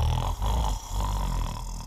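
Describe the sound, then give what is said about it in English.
A voice imitates a sleeping princess's loud, almighty snoring, rumbling and growly, in two drawn-out snores with a short breath gap between them, steady. “He could hear her loud, almighty snore.”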